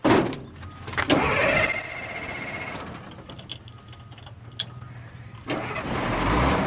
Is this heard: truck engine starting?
yes